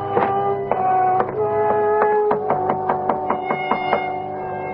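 Knocking on the door of a cottage set back from the street, with no answer: a long run of sharp raps that start spaced out and then come quicker and more evenly, over a steady humming tonal background.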